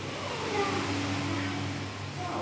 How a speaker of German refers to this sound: Noch so ein Rauschen, das höre ich auch. Was ist eigentlich dieses Rauschen hier? Was hier brummt, das sind ziemlich große Pumpen. Und dann brauchst du ganz große Pumpen, die das Wasser bewegen und Sauerstoff reinbringen.